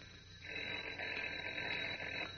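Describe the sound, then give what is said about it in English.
Clark Kent's telephone rings in his apartment in one sustained, buzzy burst lasting about two seconds, fairly loud, with a narrow, tinny quality like an old recording and no voices. “But as we continue now, Kent's phone is ringing again.”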